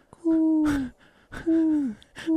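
A human voice imitates a mourning dove's cooing with three steady, low, hooting coos, each sliding slightly downward at its end, separated by brief breathy pauses.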